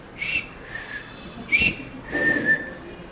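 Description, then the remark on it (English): Someone whistles short, high chirps in imitation of a small pet bird from a pet shop after a nice breakfast, four bright tweets in an uneven rhythm, the last one drawn out and wavering, with no speech. “He was going, chirp, chirp, chirp, chirp, chirp, chirp.”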